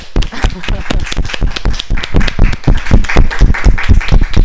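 Audience applause: many hands clapping in a dense, steady patter that stays loud for the whole few seconds, with a murmur of voices mixed in.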